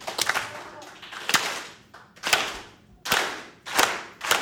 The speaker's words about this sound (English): We're going to clap real slow at first and then get faster and faster. Ready? Real slow at first.